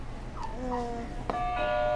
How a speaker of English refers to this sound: Can you hit another buzzer?